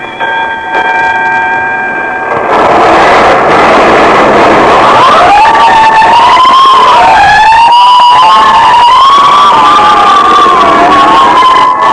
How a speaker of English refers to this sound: Every time I hear fire engines at night, I think of Harrison Murdoch and the Chantilly case.